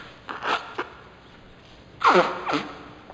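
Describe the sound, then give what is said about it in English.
Several short, breathy sniffles from a person with a teary left eye, not a cold, in two uneven clusters, a softer pair early on and a louder, longer pair near the end, with quiet pauses between and no talking. “You must excuse my sniffling.”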